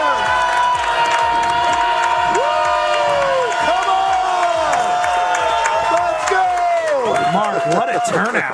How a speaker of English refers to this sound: What a turnout. Hey, give yourselves a round of applause. Y'all look great.